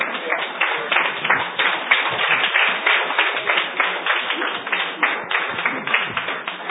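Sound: audience applauding loudly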